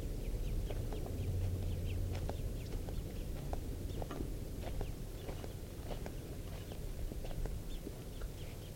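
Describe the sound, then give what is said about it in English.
Two birds call back and forth, a parent and its young, with frequent short, high chirps and peeps repeating irregularly over a steady low rumble and soft shuffling sounds. “It may just be two birds, the parent and the young.”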